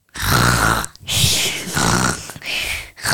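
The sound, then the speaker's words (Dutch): A young voice mimics loud, rasping snoring like a sleeping dad: about four gravelly snorts in a steady rhythm, each separated by a brief gap, with no other talking. “Papa zegt, snurk als een papa die slaapt.”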